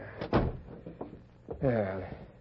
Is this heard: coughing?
no